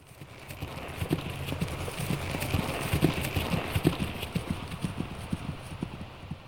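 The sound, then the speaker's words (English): Three horses' hooves clip-clop steadily on a hard road to London as three guards ride, a busy overlapping rhythm at a brisk pace, with a soft hiss of background noise and no talking. “The three guards jump on their horses and start on the road to London.”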